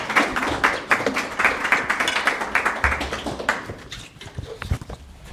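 An audience claps steadily to welcome a professor being introduced, a dense crackle of many hands that holds strong for several seconds, then thins out and fades into scattered claps near the end.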